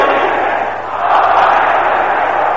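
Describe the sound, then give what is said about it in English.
A large group of men in a prayer service shouts a prayer phrase together loudly and continuously, a dense roar of many voices filling the space for a few seconds with only a brief dip before surging again. “Can I hear the brothers shouting it loud and clear?”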